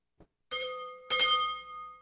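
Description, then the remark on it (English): A gas station driveway bell, rung when a car drives over it, chimes twice, the two ringing tones starting about half a second apart, each with a sharp metallic strike and a shimmering sustained decay. A soft thump comes just before. “I'm going to guess gas station.”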